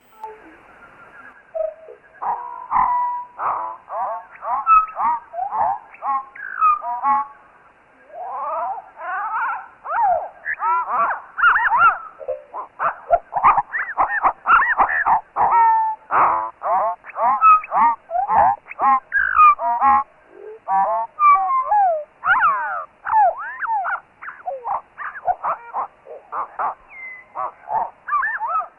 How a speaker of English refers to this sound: Now I'm going to play it slowed down to one-third real speed. And now just sort of sit back and enjoy the amazing acoustic complexity of what this bird is able to produce as it's flying around.